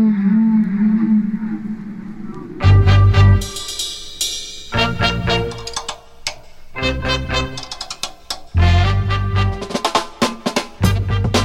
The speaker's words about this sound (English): And we'll hear from the whales themselves. They were actually singing songs. Seriously, songs.